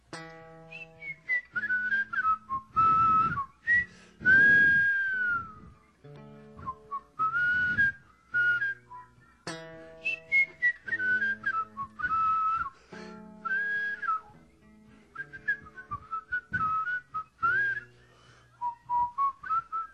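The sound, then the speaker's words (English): Two people whistle a melody together in harmony, one whistling the melody and the other a fifth above it, in short bright phrases with brief pauses between them and no talking. “See, you can't do because I'm whistling a fifth out and you're whistling in the melody.”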